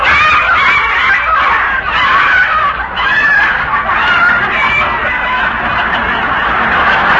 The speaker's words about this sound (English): Look at your garden. Huh? The neighbor's chickens are in there again.